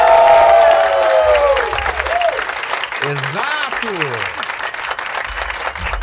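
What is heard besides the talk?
audience applause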